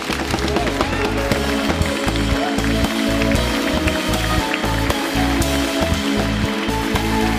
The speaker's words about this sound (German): begrüßen genauso wie unser Publikum den Andi mit großem Applaus.